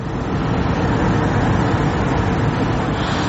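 cars queuing

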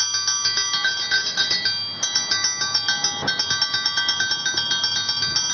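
school bell ringing

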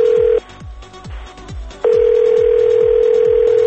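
telephone call ringing

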